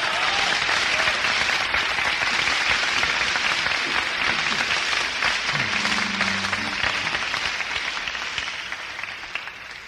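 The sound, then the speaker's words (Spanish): A crowd applauds steadily and loudly, a dense wash of many hands clapping that holds for several seconds before slowly thinning toward the end. “Entonces, échenle un fuerte aplauso, pues, de una vez.”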